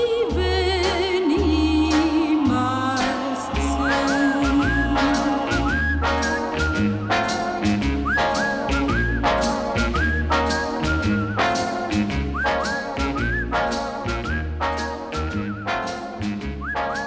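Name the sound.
whistling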